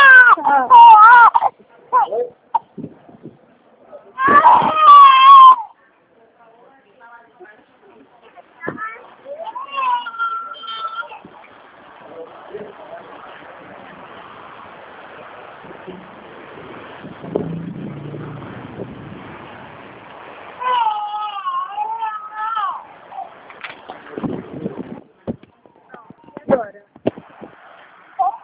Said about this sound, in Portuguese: Ai, peraí, só um minutinho que meu filho tá chorando. Calma, meu amor.